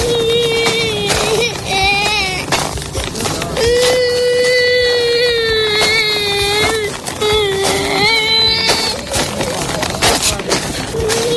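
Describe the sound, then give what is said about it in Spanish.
A young child of about six cries loudly while walking alone along a humanitarian corridor during the war in Ukraine, wailing in long, strained bursts with brief breaks for breath, over a steady background of outdoor noise. “Ese era un crío llorando de unos 6 añitos andando solo por un corredor humanitario.”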